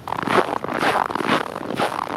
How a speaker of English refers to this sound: That's me walking over the fresh snow with an air temperature of about 5 below today. And you hear how it squeaks and crunches.